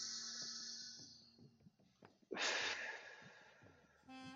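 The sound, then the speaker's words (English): A single breathy exhale through the nose, lasting about a second, made during a calming breathing exercise with a dog, with faint sustained tones humming in the background before and after. “And exhale.”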